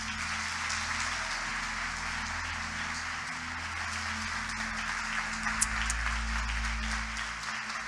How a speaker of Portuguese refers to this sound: Eu peço à igreja que receba o pastor Marcos Feliciano com a calorosa salva de palmas.